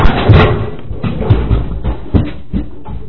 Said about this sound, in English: Did you just knock the computer over? Damn it. Never mind. I broke. Hey, was it a new computer? You said you just bought it a week ago, right?